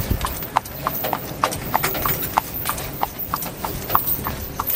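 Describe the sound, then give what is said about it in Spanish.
Steady clip-clop of the hooves of a horse pulling a small cart with seated passengers on pavement, a regular trotting rhythm of sharp knocks over a low rumble of wheels and street noise, heading into the historic centre of Cienfuegos. “Sentados en un carrito jalado por un caballo, nos trasladamos al corazón histórico de la ciudad, la Plaza Central de Cienfuegos”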